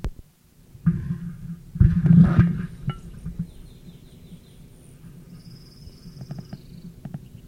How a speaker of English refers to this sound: Dive by male rufous, object unknown.